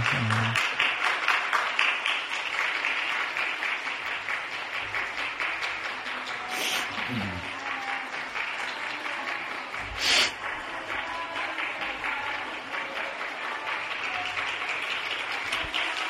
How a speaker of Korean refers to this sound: 우리 축하의 박수를 보내겠습니다. 감사합니다. 아, 축하합니다.